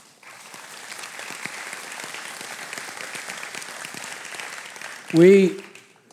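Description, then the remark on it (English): An audience claps steadily for several seconds after a testimony is given, a dense, even patter of many hands, before a single voice starts speaking over the fading applause. “My testimony was one of several that were given, and each of them you would have been applauding for also.”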